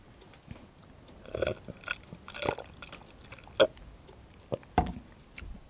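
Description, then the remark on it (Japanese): Wet slurping and swallowing sounds from someone drinking a thick, frothy, lumpy vanilla Fuel complete-meal shake, with a few sharp gulps and soft liquid smacks spread over several seconds, no talking. “飲んでみましょうか。”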